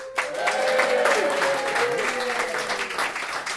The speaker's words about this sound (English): So if you like the 4x4 idea, cheer and clap now.